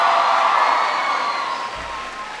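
A crowd in Virginia applauds and cheers loudly for a speaker's introduction, a dense wash of clapping and scattered shouts that holds steady, then gradually eases off toward the end.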